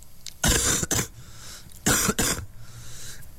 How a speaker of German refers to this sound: Ja, das klingt nicht gut, ne? Ein ganz fieser Husten. Und das hören wir manchmal, ja, immer wieder, ne?